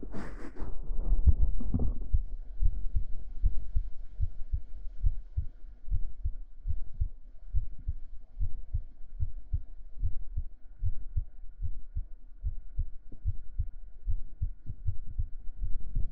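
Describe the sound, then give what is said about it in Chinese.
A steady heartbeat thumps in a regular low rhythm, roughly twice per second, after a brief rustling bump at the start. No one speaks, and a faint hum sits underneath. “这样吸尘听心跳会让你放松下来吗？”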